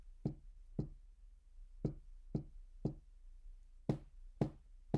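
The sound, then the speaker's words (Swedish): A series of about nine sharp knocks on the side of a cabin, as if made with a finger, evenly paced at roughly half-second intervals, fairly loud against a quiet low hum. “Men helt plötsligt hör han hur fotsteg går mot sidan av stugan och fotstegen upphör men knackningen påbörjas igen men på sidan av huset med som att det vore med ett finger.”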